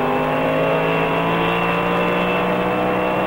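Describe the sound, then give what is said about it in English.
Race car engines roar steadily and loudly throughout as the cars race into Pennsylvania, a sustained high-revving drone with strong harmonic tones and no voices. “As the cars roar into Pennsylvania, the cradle of liberty, it seems apparent that our citizens are staying off the streets”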